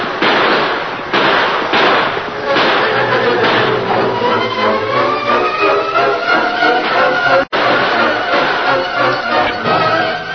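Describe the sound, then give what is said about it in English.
Rapid, overlapping gunshots crackle in dense bursts during a gun battle with outlaws at a bridge, sharp pops piling over one another at full volume, with a brief cutoff near the end before the firing resumes. “A desperate gun battle followed.”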